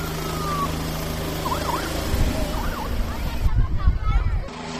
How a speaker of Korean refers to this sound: 경찰 헬리콥터이기 때문에 더 기대감을 가지고 헬리콥터의 이륙 모습을 지켜보고 있습니다. 자, 이제 헬리콥터가 드디어 이륙을 하나요? 조종사들이 헬리콥터를 타고 하늘로 오르고 있습니다.